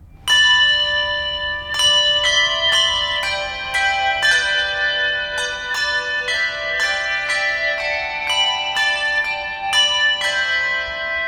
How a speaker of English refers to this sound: He's since been promoted to head custodian, and on special occasions, like Easter Mass, he plays in the bell choir.